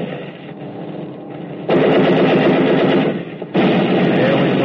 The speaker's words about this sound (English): I looked over my shoulder and watched him checking his gun sight and firing the lower rear turret.